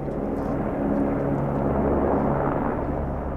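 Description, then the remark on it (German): A helicopter drones steadily, a loud, continuous low rumble of rotor and engine noise with a faint whine, holding constant throughout with no voices, as it carries boulders one at a time on a long steel cable up a steep mountainside to a platform. “Rund 10-mal transportiert der Helikopter die Steine hoch zur Plattform.”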